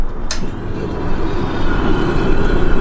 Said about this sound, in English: This machine shoots particles of silver iodide into passing clouds and makes them drop their snow, enough to boost the state's water supply by more than 10% some years. Good to turn it on.